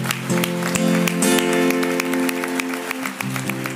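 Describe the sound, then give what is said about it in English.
An audience claps and applauds steadily in praise of the Lord over sustained keyboard music. The crowd's claps are lively, and a voice calls out briefly. “Can we just give the Lord a big hand clap of praise?”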